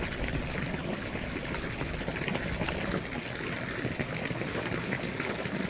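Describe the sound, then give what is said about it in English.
A steady stream of well water gushes and trickles continuously, fairly loud, with a broad splashing hiss and no pauses, as it is pumped out and poured into a container. “So this is our well water.”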